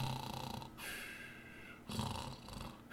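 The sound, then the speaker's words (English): A voice imitates snoring, with about three raspy, breathy snore cycles in a steady, slow rhythm, each a rough nasal drone followed by a softer airy exhale. “And before he knew it, he was snoring asleep.”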